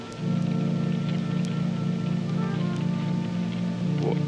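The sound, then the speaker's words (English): Steady rain falls without pause, a dense, even patter that stays at the same moderate loudness throughout, with a low hum underneath and no voices. “It's still raining. Why is it still raining?”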